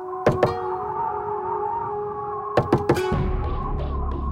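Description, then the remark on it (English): Knocking on a wooden door of a house near the Huangpu River, just after 7 a.m.: two raps, a pause, then three more in quick succession, over a steady low humming drone with no voices. “Her knocking still greeted with silence”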